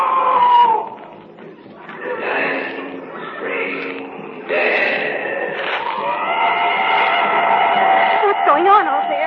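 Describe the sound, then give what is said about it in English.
A wounded animal screams in a series of loud, harsh, drawn-out wails, almost continuous, the pitch wavering and breaking upward near the end. “Wounded animal screaming out.”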